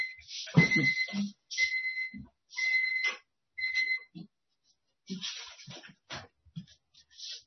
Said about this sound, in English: I am sorry, that was an alarm that was going off. I had to control that.